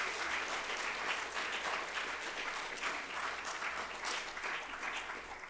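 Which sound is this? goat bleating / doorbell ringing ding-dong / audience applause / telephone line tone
audience applause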